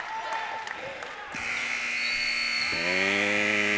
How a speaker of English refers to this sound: Toss is off the mark. That's the buzzer. Travis Tigers 44, Longhorns 38 through 3. We'll be back for the fourth quarter.